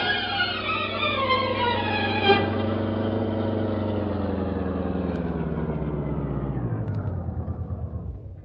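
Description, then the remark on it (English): A car engine drones steadily as the vehicle drives to the waterfront neighborhood, its harmonics sliding downward as the revs ease off, with a low rumble underneath and no voices. “It's a big risk, Cato, but we're going to the waterfront neighborhood right now. Step on it.”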